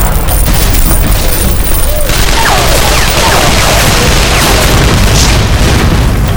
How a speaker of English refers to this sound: Kelly opened fire with both pistols in a swiftly measured cadence that spoke of years of experience with the weapons.